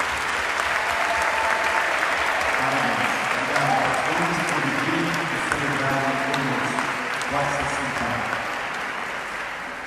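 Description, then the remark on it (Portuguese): A church audience breaks into sustained, steady applause for the pastors and ministry leaders standing up: a dense wash of clapping lasting the whole stretch, with faint voices and cheers rising underneath. “Dá uma salva de palmas a eles.”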